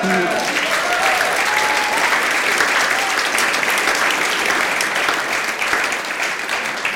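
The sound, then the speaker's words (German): Sustained applause for the Lord from an audience, a dense, steady patter of many hands clapping at an even loudness for several seconds, with a few voices briefly audible at the start. “Auch dafür können wir mal dem Herrn klatschen.”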